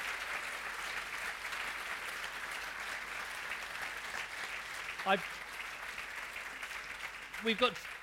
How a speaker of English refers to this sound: Can we have a big round of applause for Isabella?